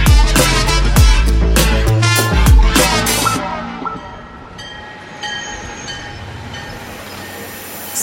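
A train rumbles along with loud, rhythmic clanking bursts, then settles into a long, steady high-pitched whistle held over the fading rumble. No voices.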